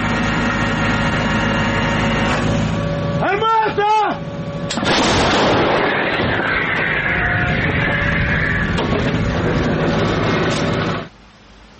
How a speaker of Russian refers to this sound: 45-тонна артустановка здіймає стіну пилу. Бійці мчать на позицію відразу після отримання координат цілі. За лічені хвилини підготовки – перші залпи.